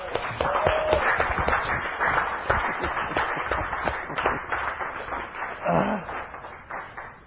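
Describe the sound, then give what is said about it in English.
A crowd claps and cheers steadily for several seconds, a dense wash of hand claps with voices mixed in, holding at an even, lively level throughout. “Give her a cheer.”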